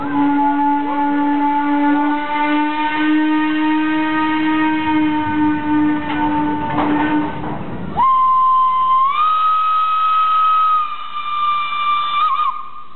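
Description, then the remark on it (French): A steam train whistle of a small local train of south-western France blows long and loud, a low sustained wail that breaks off after a hissing burst, then returns as a higher, shriller blast that steps up in pitch. “La compagnie des petits trains du Sud-Ouest arrêtera ses services en 1938.”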